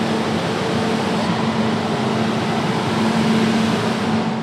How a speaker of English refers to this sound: Fans whir and whoosh. It's so loud and constant that people working here are encouraged to wear earplugs to protect their hearing.